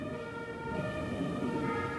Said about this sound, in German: Wenn wir gerade hier die Martinshörner hören, kamen die auch öfters bei euch vorbei?